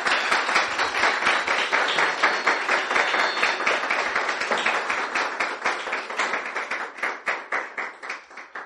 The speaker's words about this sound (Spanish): Deme un aplauso al Señor.